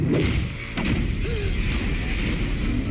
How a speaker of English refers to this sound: Wow, that's an expensive door.